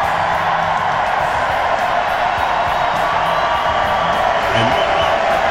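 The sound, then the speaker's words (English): A large crowd at a presidential rally in a basketball arena cheers and roars continuously, a dense wall of whoops and shouting voices at a steady, loud level with no pauses throughout. “And those kind of statements gets the crowd fired up.”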